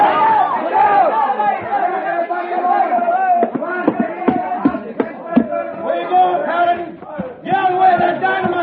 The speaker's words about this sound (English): That crowd is still running. I don't blame them. Well, they won't collect again.